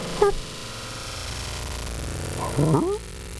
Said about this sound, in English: Now we're in slow motion here. Nice. Oh, this is as loud as it can go, actually. Yeah. We're cranked over here, too. I need some more distortion. Dog distortion. The slow motion bark.